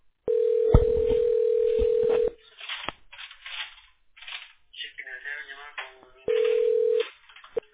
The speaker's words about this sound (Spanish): te estoy marcando de la línea de la compañía, contéstame, de la otra línea.